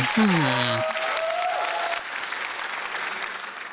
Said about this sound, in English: Audience, how about a big round of applause?